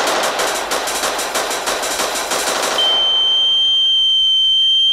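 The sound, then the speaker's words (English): A harsh, rapid crackling burst gives way abruptly to a steady, high-pitched sine test tone that holds at a constant loud level until the end, with no voices. “Sine wave tones at reference level.”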